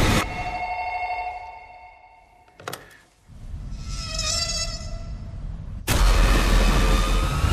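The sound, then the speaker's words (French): An electronic telephone ring with a steady, buzzing tone sounds fairly loud, followed by a short gap and then harsh, noisy buzzing bursts, with no one speaking. “Si vous regardez une certaine cassette vidéo et que votre téléphone sonne, vous êtes mal parti.”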